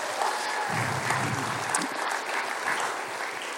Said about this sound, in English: So I just want to give him a round of applause for being faithful, please.